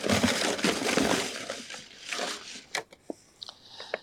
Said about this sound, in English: Nearly 1,000 couples submitted their names for the lottery, and some of them gathered to watch the live drawing of the winners on Facebook. Cook County Clerk Monica Gordon mixes up folded pieces of paper in a box before picking one from the pile.